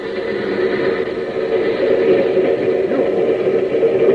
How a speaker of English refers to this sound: A train's coming in on the next track.